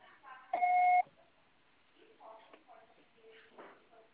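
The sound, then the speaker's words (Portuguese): A single loud, steady electronic beep tone of a telephone message recorder, lasting about half a second, preceded by a brief voice asking the caller to leave a message after the signal, and followed by quiet, muffled talking. “Grave seu recado. Você só será tarifado após o sinal.”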